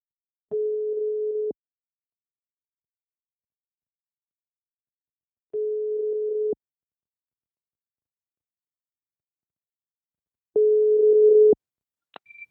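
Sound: telephone ringing tone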